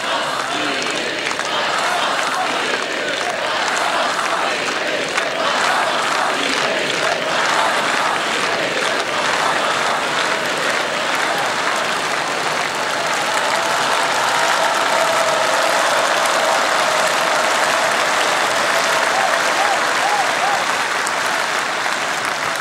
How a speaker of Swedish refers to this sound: Men någonting hände den där kvällen 1985. Efter den inledande sovjetiska fanfaren hörs publiken skandera Geismas Pils Mednis, Geismas Pils Mednis.